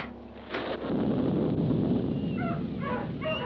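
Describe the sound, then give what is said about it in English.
A sudden chaotic din of dogs yipping and whimpering mixed with cats meowing, all piled over a dense, rushing roar, loud, with no talking; heard as a door is opened and it is raining cats and dogs. “Gee willikers, look! It's raining cats and dogs.”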